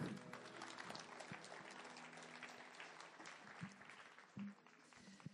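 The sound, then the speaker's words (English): An audience applauds the band steadily for several seconds, a dense wash of many hands clapping at an even level, with a few brief low tones and a short hum breaking through near the end. “Hey, come on, give the band a clap.”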